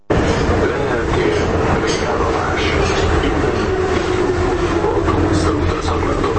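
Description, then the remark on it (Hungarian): A line 3 metro train rumbles steadily into its temporary terminal station, its loud, continuous roar carrying a sustained motor whine and faint rail clatter throughout, unbroken. “Befutott ideiglenes végállomására a 3-as metró, miután elkezdődött az észak-déli vonal északi állomásainak és az alagút rekonstrukciója.”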